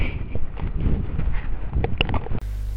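Horse hooves clip-clop in a short, uneven run of knocks over rough, windy outdoor noise, then cut off abruptly into a steady low hum.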